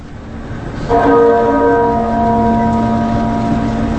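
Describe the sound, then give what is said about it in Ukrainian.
A single deep, muffled church bell strike rings out about a second in, accompanying Margaret Thatcher's coffin to St Paul's Cathedral in London; its tone lingers and slowly fades over a steady background rumble. “Приглушений дзвін супроводжував труну Маргарет Тетчер в один з найвеличніших соборів у Лондоні – собор Святого Павла.”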